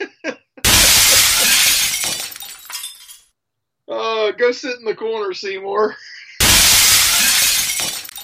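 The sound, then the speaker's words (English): Two loud bursts of glass shattering, each a harsh crash trailing off over about a second and a half, with a man speaking briefly between them. “He's gonna break all my glass now.”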